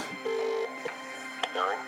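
A telephone rings with short electronic tones: a steady beep, a brief click, then a warbling trill, clear over a faint background hum.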